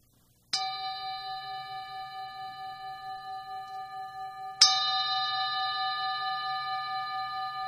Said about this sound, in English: So I'd just like to punctuate that with a little gong